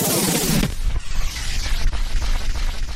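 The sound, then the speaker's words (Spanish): A terrorist bomb explosion in Madrid, Spain, erupts with a loud blast, then gives way to a continuous rolling rumble and crackling noise that stays heavy for several seconds. “Y un momento, porque tenemos una última hora, habla de que se habría producido una nueva explosión.”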